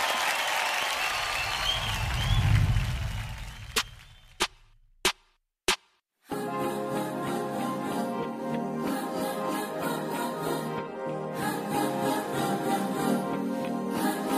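A crowd claps and cheers loudly for a few seconds before the noise dies away. Three sharp isolated clicks follow, then steady instrumental music begins.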